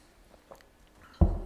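A quiet moment with a faint click, then a sudden wet gulp as a pastor swallows a sip of water during a sermon. No one speaks.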